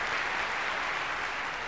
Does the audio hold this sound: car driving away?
no